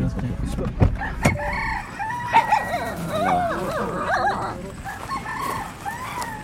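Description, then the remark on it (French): Busy village farmyard chorus in the countryside of clucking and crowing poultry, including chicks and guinea fowl, mixed with dogs barking and whimpering, overlapping calls throughout, with a few sharp louder barks early on. “C'est vraiment la campagne, quoi. On voit les petites chèvres, les poussins, les chiens, les pintades.”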